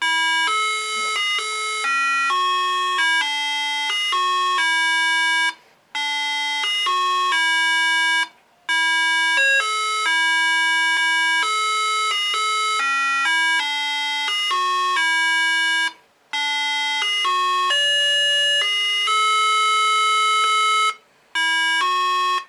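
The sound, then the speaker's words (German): A melodic doorbell chime plays the tune Der Vogelbeerbaum, one of two sounds on the device: steady, bright electronic notes stepping up and down in pitch, loud and continuous apart from a few short pauses between phrases, with no talking. “Es sind wieder zwei Sounds auf dem Pick drauf. Zuerst starte ich der Vogelbeerbaum.”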